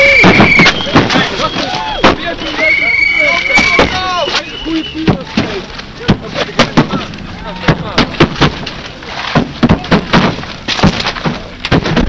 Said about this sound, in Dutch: Het ziet ook heel bedreigend uit als een auto gesloopt wordt op de straat.